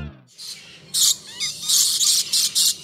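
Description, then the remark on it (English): Shrill, harsh bursts from lories (small parrots) repeat in quick succession, loud, with an overlapping chorus of squawks and chatter against a dense background in the Lory Loft aviary at Bird Paradise, Mandai Wildlife Reserve, Singapore. “Lorry Loft is always good value for noise.”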